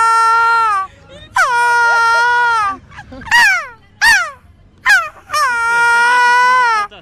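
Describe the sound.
A man in a carnival costume with a feathered hat imitates a seagull's cry at the 2017 Dunkirk carnival: long, piercing, nasal wails that sag in pitch, broken up by a few short, sharp yelping calls. Loud and on its own, with no other talk.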